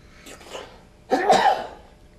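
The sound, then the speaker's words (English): A single sneeze: a soft, breathy intake followed by a sharp, loud explosive burst that quickly trails off. No one speaks. “God bless you.”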